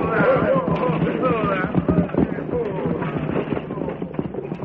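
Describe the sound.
A stagecoach's horses are pulled to a halt for a hold-up: a dense clatter of hooves and rattling wheels, with men's voices shouting over the din as the commotion slowly eases.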